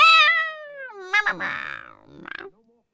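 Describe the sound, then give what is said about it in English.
A person imitates a cat, giving one long, drawn-out meow that slides downward in pitch, followed by a few shorter, breathy trilling sounds. It is fairly loud, and then goes quiet. “And I want to date you, but I can't date you when you're allergic to me because, well, dating a cat means this. Meow, nuzzle, nuzzle, nuzzle, wrap myself around you.”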